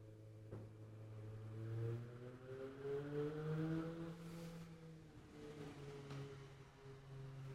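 A car drives by with a steady engine drone whose pitch rises and then falls as it approaches and recedes, a moderately loud hum with no talking over it.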